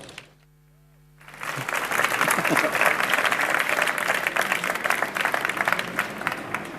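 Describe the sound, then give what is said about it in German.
Audience applause for two project presenters swells up after a brief quiet start, a dense wash of many hands clapping that stays steady and fairly loud for several seconds, with faint voices mixed in. “Einen Applaus”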